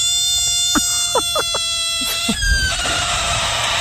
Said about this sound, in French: Non, c'était la grenouille. Ah là là. Ah bah là ouais, là mais là t'entends là. Ce cri, elle veut faire fuir tout le monde là.